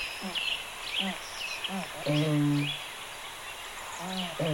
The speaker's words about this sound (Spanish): Por cierto, tiene en el cuello una caja de resonancia que le permite proferir gritos audibles a gran distancia para defender su territorio de cría. Suena más o menos como un toro.